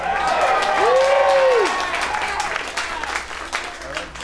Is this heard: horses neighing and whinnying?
no